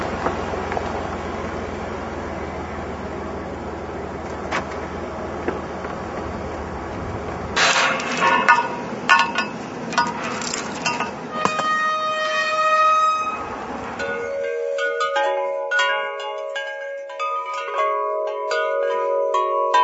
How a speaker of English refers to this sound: He often hears these in the background, and he adores the sound of the wind chimes. So I thought we'd grace his chalet with these.